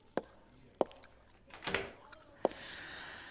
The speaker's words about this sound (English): I'm just gonna lock the door so no one disturbs us.